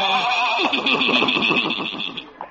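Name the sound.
horse whinnying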